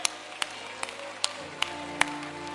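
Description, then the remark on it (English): An audience at a church service claps for the choir in a steady, even beat, six sharp claps at regular intervals over a faint low sustained hum. “Come on, let's give the choir a hand clap.”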